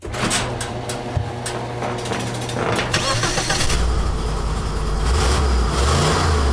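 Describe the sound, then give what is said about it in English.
A Lincoln car engine idles with a steady low rumble, then revs up loudly around midway, the deep roar swelling and holding. “Listen to that Lincoln purr.”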